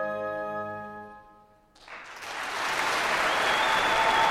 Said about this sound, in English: We got to the end of the piece, and there was an eruption of applause.